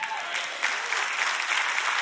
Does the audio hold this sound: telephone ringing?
no